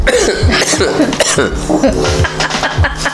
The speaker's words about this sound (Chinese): 我一直咳给你们听，想听咳嗽吗？ 连听众都会感冒， 听一听他们搞，我觉得喉咙开始痒， 开始痒痒的。